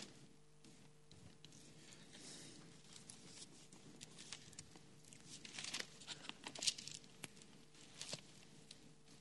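Soft, scattered rustling and flipping of Bible pages, like several people thumbing through Bibles at once to find James 5:16, quiet and continuous with a few sharper crinkles toward the end.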